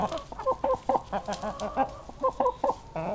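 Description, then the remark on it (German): Several chickens cluck in a quick, irregular series of short, bright calls while pecking dried mealworms from a patient's hand, with a busy background of softer clucks and rustling. “Da picken die Hühner der Patientin die getrockneten Mehlwürmer aus der Hand.”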